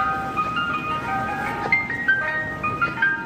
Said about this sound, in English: Out of Chicopee, Massachusetts, you might notice something different about one of their police cruisers. Instead of sirens, this one plays the ice cream truck song.